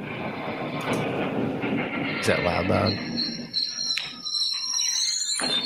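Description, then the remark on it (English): A broad mechanical rumble fades as the motor stops and loud, piercing brake squeals take over, several high sustained tones wavering for the last few seconds. A man briefly speaks early on. “Like those brakes, man. Sound hideous.”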